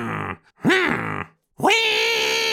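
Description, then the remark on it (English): A voice imitates a dentist's drill in three buzzy bursts: a short hum, a whine that swoops up and back down, then a loud whine that ramps up and holds steady. “you're putting yourself in the frame as the bogus dentist with that perfect drill impression.”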